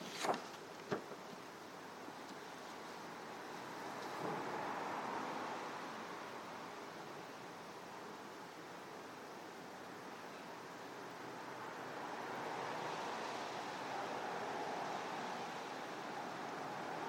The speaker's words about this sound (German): Wir hören das Geräusch von den Autos da draußen.